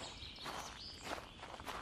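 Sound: footsteps walking away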